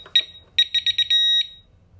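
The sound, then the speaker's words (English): Sharp electronic beeps from an alarm system keypad: a short chirp, then a quick run of four rapid beeps followed by one longer sustained tone, loud with a faint low hum underneath. “Where's it beeping? Is it beeping from there?”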